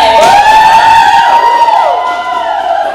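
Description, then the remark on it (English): An audience cheers loudly as a guest is welcomed on a show, with high, wavering whoops and sustained cries rising and falling in pitch over a dense wash of noise for about three seconds. “We got an audience here, so you can clap.”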